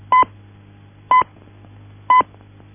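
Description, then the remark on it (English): Three short, evenly spaced time-signal pips from the Irish Post Office speaking clock, one each second, marking the third stroke at 11:59 and 50 seconds; bright mid-pitched beeps standing out loudly over a low steady hum with no voices. “At the third stroke, it will be 11, 59 and 50 seconds.”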